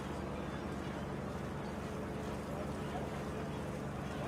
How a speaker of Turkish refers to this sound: Marmara maviliklerinde ilerleyen bu gemi eksiksiz bir teknolojiyle donatılmış.